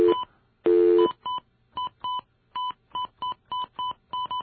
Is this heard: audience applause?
no